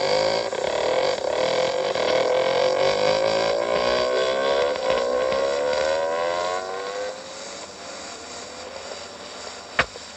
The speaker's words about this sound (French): Sans perdre un instant, le motard enfourche sa moto et file en direction de la mairie.